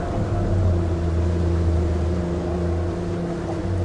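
A boat motor runs steadily off the public beach at Golfo Nuevo, a continuous low droning hum with a few sustained engine tones and no pauses or voices over it.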